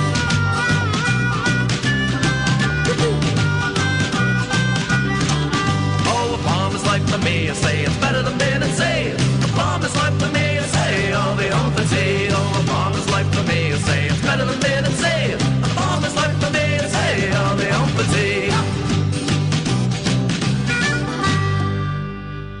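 A steady, full-band song plays loudly and continuously, with bright layered instruments over a driving rhythm, fading slightly at the very end.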